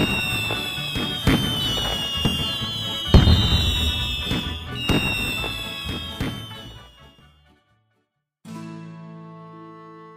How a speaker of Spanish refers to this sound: Pero eso sí, que no falten los fuegos artificiales para el aftermovie.